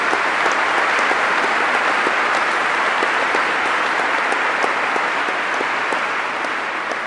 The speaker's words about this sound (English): Thank you very much from all of us. Yes, please. That is for you. All applause for you.